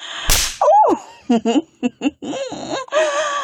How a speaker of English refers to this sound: Oh, fuck. You really like slapping that ass. Don't you, baby?